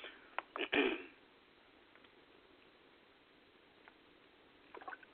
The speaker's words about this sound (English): Just excuse me as I drink some water. I'm feeling dry on my throat right now.